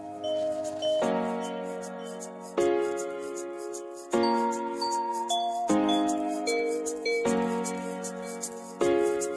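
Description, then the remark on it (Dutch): A song's instrumental intro plays with bright, chiming sustained chords that change at a steady pace, about every second and a half, clear and up front with no voices. “Nou, we zijn natuurlijk hartstikke benieuwd naar het liedje dat er over jou is gemaakt. En dat hebben wij gevonden. En dat gaan we nu luisteren.”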